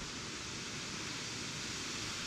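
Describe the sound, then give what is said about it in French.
Tree leaves rustle in the wind, a steady, hissing wash of sound that holds evenly throughout without any pauses or distinct gusts. No one speaks. “On entend les feuilles des arbres, c'est...”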